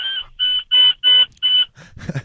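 A truck's alert beeps as it stops: five loud, evenly spaced electronic tones with a steady high pitch, followed by a short burst of rough noise at the end.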